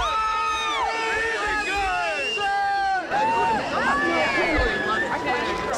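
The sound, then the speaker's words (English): A crowd cheers and hollers continuously for the second-place musher at the finish of the 2014 Iditarod sled dog race on Front Street, many overlapping voices whooping and shouting at once, loud, with no pause throughout. “People are still cheering for her.”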